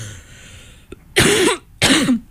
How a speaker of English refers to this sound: I'm not coughing into the mic, by the way.